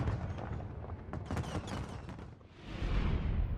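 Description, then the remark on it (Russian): A fireworks display celebrating Chinese New Year in Hong Kong: rapid crackling bursts and booming pops fill the first few seconds, followed by a rising, rumbling wash of sustained noise. Loud and continuous, no voices. “Китайский Новый год встретили в Гонконге завораживающим фейерверком.”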